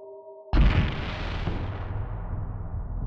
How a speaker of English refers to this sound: A bang that sounded more like an explosion erupted.